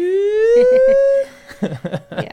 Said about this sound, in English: You can hear that siren. Whoop, whoop. That's right. Because we're in a village that has a siren.